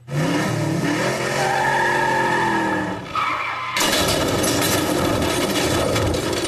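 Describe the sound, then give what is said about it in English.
A car engine revs hard during a car stunt, its pitch climbing in waves, then gives way to a loud, harsh rush of noise like tires skidding across pavement. No voices are heard. “And brace yourself. It's time for Stupid Car Trick.”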